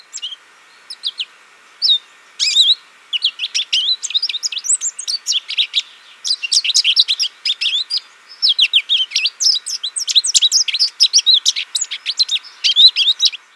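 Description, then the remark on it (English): A long, rambling song of a male American goldfinch, a small North American finch about 4.5 inches long, of rapid, high-pitched twitters and chirps, sung continuously in bursts with brief pauses, clear with no other sounds. “Males of this species are lemon yellow with a jet black cap and wings. They sing like this.”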